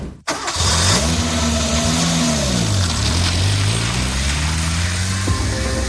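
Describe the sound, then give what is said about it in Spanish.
A car engine hums steadily and loudly, its pitch rising and falling gently as it changes load, as a car drives up to the Baqueira Beret ski station in the Pyrenees in January 2022. “un empresario de 47 años, sube en coche a la estación de Baqueira Beret de los Pirineos para practicar esquí con unos amigos.”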